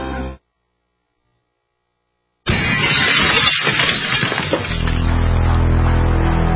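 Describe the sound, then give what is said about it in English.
A window is smashed in a home burglary break-in, a smash and grab: after a moment of silence, a sudden loud crash of breaking glass gives way to crackling, splintering debris, then a steady sustained drone. “one in every 50 homes will have a break-in this year. Burglars call it smash and grab.”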